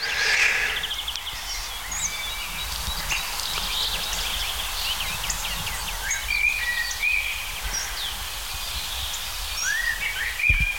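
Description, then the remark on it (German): A male blackbird sings a series of short, fluty phrases separated by pauses over a steady outdoor background hiss with a few other faint chirps. “Natürlich eine der Hauptdarstellerinnen, die Amsel, besser gesagt der Amselbruck.”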